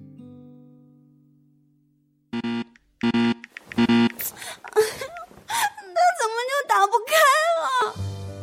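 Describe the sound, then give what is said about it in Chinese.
A person cries, sobbing and whimpering with a wavering, rising-and-falling pitch for several seconds, preceded by a fading low hum and a few short choppy bursts. “行了，先不哭了啊，你慢慢说怎么回事啊。”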